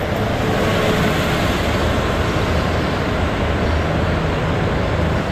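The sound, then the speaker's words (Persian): A bus passes by outside, a loud, steady engine rumble with broad road noise that holds evenly for several seconds, with no voices over it. “الان ساعت چنده داره اتوبوس رد میشه واقعا؟”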